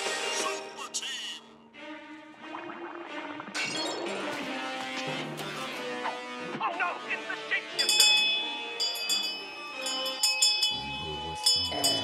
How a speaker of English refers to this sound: is watching superheroes on TV, trying to tune out his father, who's ringing a little bell and worshipping his gods.